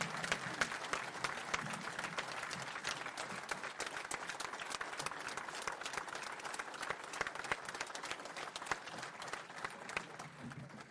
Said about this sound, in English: Let's give that man a round of applause for standing with workers.